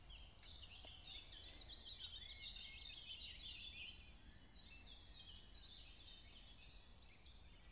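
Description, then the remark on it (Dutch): Many small birds chirp and twitter at once in a steady, high-pitched chorus of overlapping quick notes, fairly quiet, over a low background rumble, with no talking. “Die vogeltjes spreken wel heel bijzonder, toch?”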